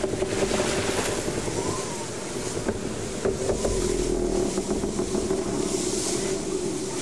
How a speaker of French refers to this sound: Pourtant, dehors c'était la nuit. Dehors c'était le vent. Dehors, c'était notre navire cinglant vers Arkham.